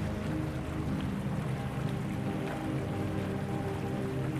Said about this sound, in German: Die wilden Blasen geben den Rhythmus an und übertönen alles und jeden um uns herum. Selbst die eigenen Gedanken bekommen eine Auszeit. Zu laut ist das Gurgeln des Wassers, um sie hören zu können.